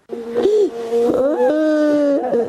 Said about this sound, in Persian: مادر او در سوگش نشسته و گلویش را بغض گرفته است.